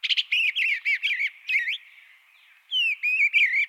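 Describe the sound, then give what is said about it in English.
An eastern bluebird sings a soft, warbling song of short rising-and-falling phrases, clear, with a brief pause before a final burst of notes. No voices. “Thanks in large part to this community-led advocacy, eastern bluebirds are now thriving.”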